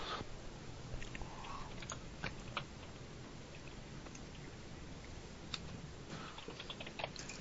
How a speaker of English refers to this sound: No, he's typing. I hear him typing in the background. Yeah, no, I'm responding to people that are sending me messages.